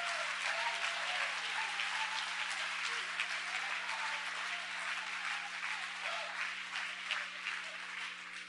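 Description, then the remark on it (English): An audience claps their hands unto God in a dense, sustained burst of applause, steady and fairly loud throughout, with a faint low hum running underneath. “Could you clap your hands unto God?”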